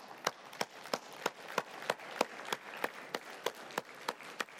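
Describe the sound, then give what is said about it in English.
An audience in a gym claps together for people who were at Jefferson 20 years ago, in a steady, even rhythm, sharp beats roughly three per second over a dense wash of scattered applause, moderately loud and with no talking. “If you were at Jefferson 20 years ago, give these people a clap.”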